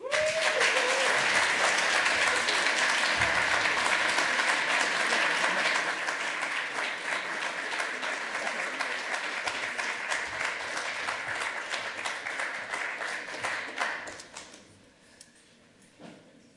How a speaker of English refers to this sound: Another round of applause for Waz, everybody. That was awesome.